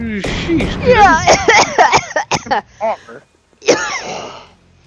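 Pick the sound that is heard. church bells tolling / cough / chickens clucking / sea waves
cough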